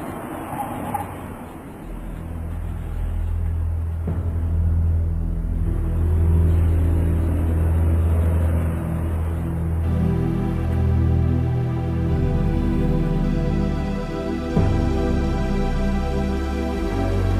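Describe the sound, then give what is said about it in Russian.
The engine of the last bus leaving for Turginovo rumbles steadily as it drives, a deep continuous drone that shifts in pitch partway through, as if changing gear, with no voices. “Ноги как-то сами привели его на вокзал, где он едва успел на последний автобус, отправляющийся в Тургиново.”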